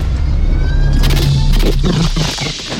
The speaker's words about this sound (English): He touches the pad. The vehicle ricochets around the clearing and crashes into a pile of rocks.